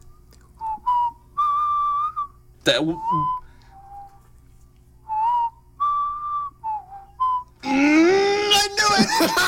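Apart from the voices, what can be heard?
whistled tune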